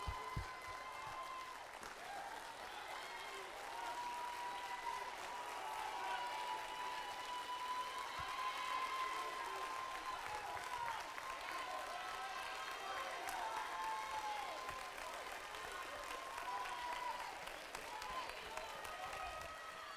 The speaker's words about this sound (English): Stand to your feet and clap your hands to the glory of God.